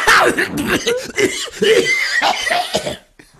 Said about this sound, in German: Du rauchst doch nicht, was soll das, diese Husterei? Nee, ich mache jetzt hier den Nord, ich finde es so lustig, dass ich husten muss.